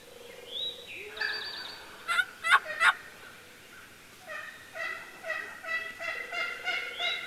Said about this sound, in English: What that sounds like to me is a mother hen making sure that her brood is in close enough.